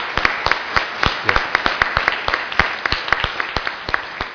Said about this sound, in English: So congratulations on that. And I think that deserves a round of applause on itself. Wonderful.